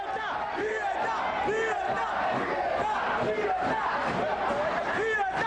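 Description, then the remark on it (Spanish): Footage of a street protest on 5 August 1994: a large crowd shouts and chants 'libertad' (freedom) together in a steady, loud roar as police are deployed against them, many voices overlapping with rising and falling cries throughout, no single speaker standing out. “En las manifestaciones se observa el despliegue del cuerpo policial que reprimía a aquellos que gritaban libertad.”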